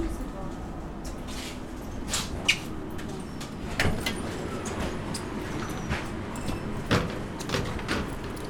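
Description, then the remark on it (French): Tram sliding doors open with a few sharp mechanical clunks and hisses over a steady low rumble as a passenger gets off at their stop, while indistinct voices murmur in the background. “L'effet se rompt dès que j'ai passé la porte du tram.”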